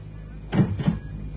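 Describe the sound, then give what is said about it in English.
A backstage dressing room door opens with two muffled wooden knocks and rattles, moderately loud, then fades into a quiet, hissy background. “Close the door.”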